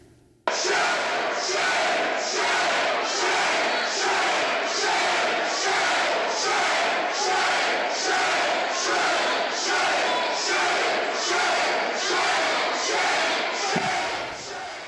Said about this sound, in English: Shouts of shame, shame erupted in the Assembly and were echoed by demonstrators sleeping in the Capitol.